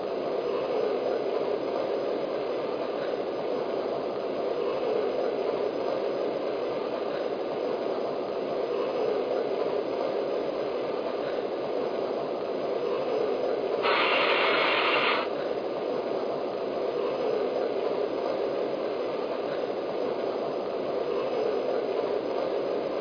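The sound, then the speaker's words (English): Steady, rumbling hiss of a train platform as a train departs for New York on track one, train number six, the Fifth Avenue Special, the noise continuous and fairly loud, with one short, brighter burst of hissing partway through. No voices. “Now departing for New York on track one, train number six, Fifth Avenue Special.”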